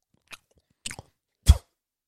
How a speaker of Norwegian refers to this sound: Du på om jeg kan spytte denne tyggisene tvers over stua, helt på andre siden?